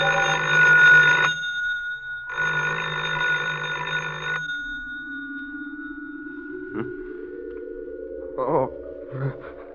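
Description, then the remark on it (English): A telephone at home rings twice in loud, buzzy bursts with a short pause between them, then falls silent while a low, steadily rising electronic tone and a few soft thumps follow. “Phone. Where?”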